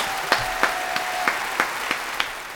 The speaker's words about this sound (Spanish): Entonces, un aplauso. Entonces, un aplauso para él, por favor.